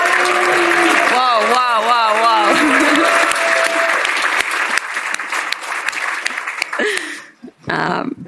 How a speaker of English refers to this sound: Please welcome former New Zealand All Black Dane Coles. And please give an equal level of applause for former Ireland player Rory Best.